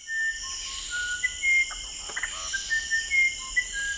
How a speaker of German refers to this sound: Aber das, was der sogenannte Flageolett-Zaunkönig in den Regenwäldern in Südamerika pfeift, ist das Musikalischste, was Forscher bisher entdeckt haben.